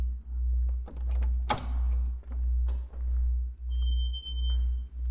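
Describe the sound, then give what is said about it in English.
A door opens with a single sharp clack and brief rattle partway through, fairly loud, over a steady, pulsing low hum. No one speaks. “feel hers back as she waits just on the other side of that door. Let's bring her out, shall we?”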